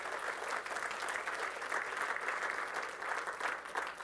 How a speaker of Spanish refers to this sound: Y el pueblo de Dios dice, podemos darle un aplauso al Señor, hermanos. Amén.